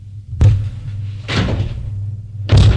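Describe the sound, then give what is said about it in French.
A door slams shut behind Maurice with a sharp bang, followed by two more heavy thuds and rattles spaced about a second apart, all over a steady low hum. “La porte s'est refermée derrière Maurice.”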